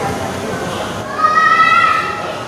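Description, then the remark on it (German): A dense wash of indoor crowd noise with many children's voices at the Discovery Center, and midway a loud, high-pitched child's shriek rises above the din for about a second. “Denn die Geräuschkulisse im Discovery Center ist ähnlich laut wie auf einer richtigen Baustelle. Nur, dass hier Kinder schreien.”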